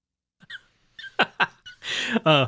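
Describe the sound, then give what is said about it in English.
A man imitates a dog's whimpering: a few short, squeaky whines and sharp breathy yelps, then a longer, strained whine that rises at the end. No words are spoken. “whimpering like a dog over there, but that's okay.”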